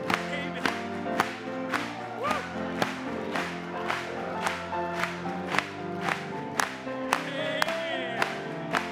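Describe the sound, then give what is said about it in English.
An audience claps in a steady rhythm, sharp regular beats about twice a second, over loud, full music with sustained singing and instruments. “Let's clap it to him one more time.”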